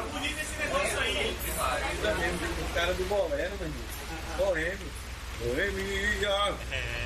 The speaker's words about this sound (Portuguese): Tem que guardar as coisas que tá chovendo, rapaz.